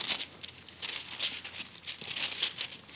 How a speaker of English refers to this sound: Let me hear those pages turning.